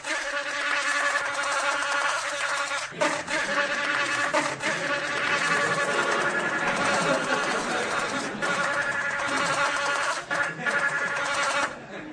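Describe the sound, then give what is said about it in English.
A bluebottle fly buzzes steadily and loudly for the whole stretch, a rough, harmonic-rich drone that wavers slightly in pitch and intensity, with a brief dip about three seconds in. “Another thing, how come I can understand the buzzing?”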